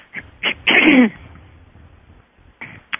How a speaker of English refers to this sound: So just bear with me while I clear my throat a few times.